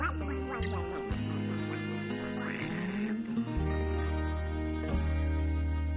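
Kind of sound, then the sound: bird, duck quacking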